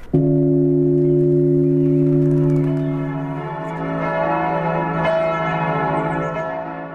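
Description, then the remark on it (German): The Monke-Hagen bell, or Great Bell, a church bell cast in 1409 and weighing about 4400 kilograms, tolls with a deep, sustained hum and rich overtones, the ring swelling and fading as it is struck again, loud with no voices. “Das ist die nach ihrem Gießer benannte Monke-Hagen-Glocke oder Große Glocke.”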